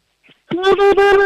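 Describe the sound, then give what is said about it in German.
A four-year-old girl from Leoben in Styria gives a high, sustained whooping call, pulsed into a quick wah-wah-wah rhythm by a hand patting over her mouth; loud, lasting about a second with no talking. “Dann mach mal einen Indianerruf.”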